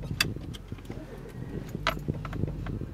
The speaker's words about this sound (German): Wir fahren los mit dem Auto in Richtung alten Dorfkern